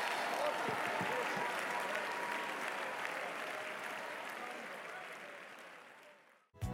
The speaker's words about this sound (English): One more time, clap your hands, all ye people, and just shout unto the Lord with a voice of thanksgiving.